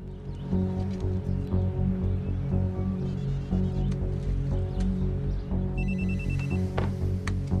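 household object, cell phone ringing

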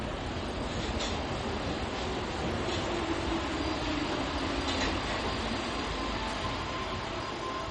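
vehicle, train rolling on tracks

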